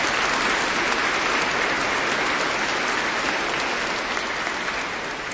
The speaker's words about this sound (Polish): Kapłani są z całej Polski, może przyjdzie taki czas, że wymienię kiedyś wszystkich, ale oni wiedzą, że wszystkich bardzo serdecznie witamy i cieszymy się, że są razem z nami. Moi drodzy, też brawa dla nich.